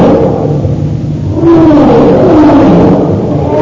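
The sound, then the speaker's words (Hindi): A deep, rumbling roar from Sabor, a lion in the Tarzan story, as it leaps to attack: loud and sustained, swelling into a second growling surge with a rough, throaty low pitch and no voices. “उसने अपनी पिछली टांगें सुकेर कर नीचे कर ली और एक दहशतनाक चीख के साथ छलांग मारी।”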